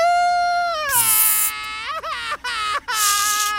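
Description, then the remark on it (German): A voice imitates a wailing baby, practising crying like a small baby, a sustained high-pitched cry that breaks into several sobbing, wavering bursts with brief gaps between them, loud. “Was? Ich soll weinen? Muffels weinen nicht. Nie. Aber ich Nie. Muss doch üben. Und kleine Babys weinen ganz viel.”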